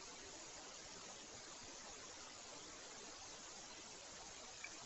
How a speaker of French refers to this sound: Des vagues qui déferlent sur une île déserte.